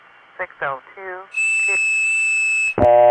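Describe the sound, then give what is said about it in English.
A long-distance telephone line signalling tone between New York and Phoenix: after a few short, wavering voice-like blips, a loud, steady high-pitched tone holds for over a second, then cuts to a lower, buzzier tone, with Phoenix signalling back to New York that it is ready for a phone number. “That sound there is caused by the fact that Phoenix is sending a signal back to New York to say, okay, I'm ready, tell me what phone number you want.”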